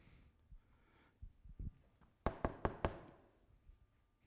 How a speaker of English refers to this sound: But you knock.